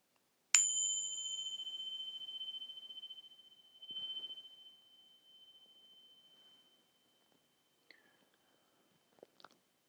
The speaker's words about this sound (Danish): Øvelsen starter, når klokken ringer.